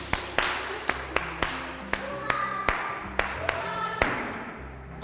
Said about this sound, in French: Très bien. Applaudissons.